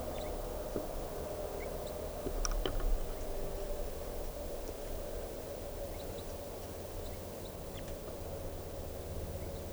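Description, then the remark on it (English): Faint, scattered high chips and chitters of crossbills up in the trees overhead, coming in brief irregular bursts over a steady, hissy outdoor background with low rumble. “So recording, I hear chitter of crossbills up in the trees right above me.”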